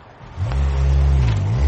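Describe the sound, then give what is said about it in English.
A car engine roars to life and revs hard, its low droning pitch rising and dipping as the vehicle accelerates away, loud with no voices over it. “Dear God, that car!”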